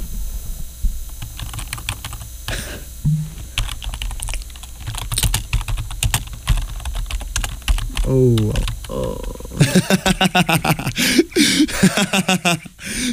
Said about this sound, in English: I think typing is like such a satisfying sound.